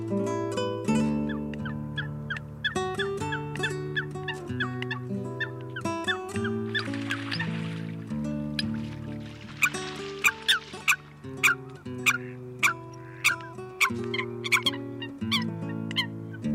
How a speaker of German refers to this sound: Das war das Blässhuhn.